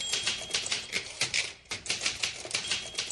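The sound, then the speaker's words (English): A woman types rapidly on a Smith Corona manual typewriter at an astonishing speed, a dense, fast run of sharp mechanical key strikes clattering, with a few brief pauses, and no voices. “We would wake up to the sound of her typing at an astonishing speed on her Smith Corona typewriter.”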